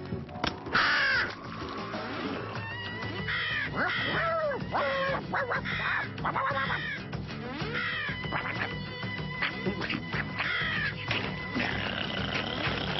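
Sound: raven cawing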